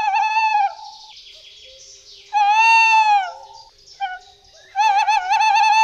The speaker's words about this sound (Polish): cmentarz, albo jakieś zadrzewienie wokół kościoła, czy innego miejsca i usłyszelibyśmy sowę, no to właśnie, mówimy o tym, żeby się nie zdziwić, bo rzeczywiście jeszcze o tej porze przy Wigilii możemy usłyszeć na przykład głos terytorialny puszczyka.